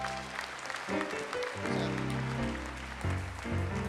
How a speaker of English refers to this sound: Amen. Come on, give God one more hand clap of praise.